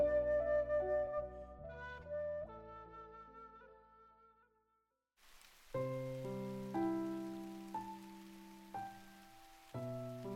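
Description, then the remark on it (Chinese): Steady rain hiss sets in about halfway through, a soft continuous wash lying beneath prominent melodic music that carries on throughout; no voices are present. “下雨了，晶莹的雨珠滚落在春草开始憔悴的脸庞上，分不清是雨水还是泪珠。”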